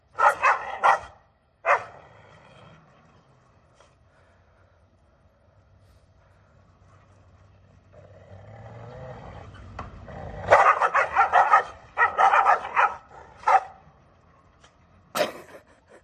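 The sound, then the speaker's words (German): Two dogs bark back and forth in loud, sharp bursts, with a lull in the middle where a low droning hum, like a passing aircraft, fills the background before the barking flares up again. “Ja, da begegnen sich zwei Hunde.”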